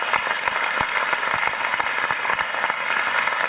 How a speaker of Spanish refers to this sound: aquí por primera vez, puede ponerse de pie para darle un fuerte aplauso y ahí darle un regalito de parte de la iglesia para que se acuerde de nosotros.